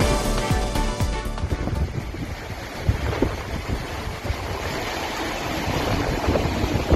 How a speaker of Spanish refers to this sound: Así suena de bravo el río Ebro a su paso por Tudela, el centro de esta localidad navarra, capital de la ribera de la comunidad foral, con cerca de 35.000 habitantes.